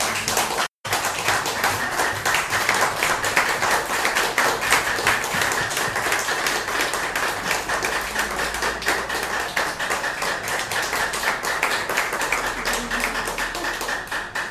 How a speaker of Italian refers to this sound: Beh, un applauso ci sta tutto.